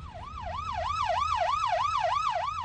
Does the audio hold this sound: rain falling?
no